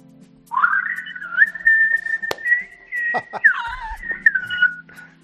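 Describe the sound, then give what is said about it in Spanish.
A loud, sustained silbo gomero whistle from La Gomera, a whistled 'buenas tardes' greeting, glides up and holds a high pitch, then bends and warbles through several melodic turns like a whistled spoken phrase, with a faint low hum beneath. “Supongo que era buenas tardes en silbo gomero, ¿no?”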